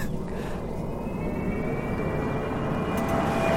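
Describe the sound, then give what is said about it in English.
A spacey, synthetic pedestrian warning tone from an electric Jaguar car, made to alert people to its presence at speeds below 20 kilometres an hour: steady whistling pitches that drift slowly upward, layered over a continuous low rumbling hum, holding at an even moderate loudness throughout. “The electric Jaguar's spacey sound is designed to alert people to its presence at speeds below 20 kilometres an hour.”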